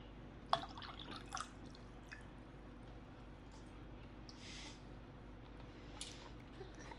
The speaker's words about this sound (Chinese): 我渴了，给主人倒杯水。要温的，不要太烫，也不要太冷，不然我打死你。倒水之后，老样子爬过来啊！